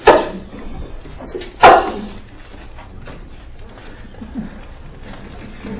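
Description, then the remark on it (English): Two loud, abrupt sneezes about a second and a half apart, each a sharp burst of breath, followed by a low, quiet background murmur. “Bless you.”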